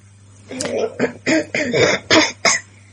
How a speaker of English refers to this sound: Are you coughing? Are you holding it in?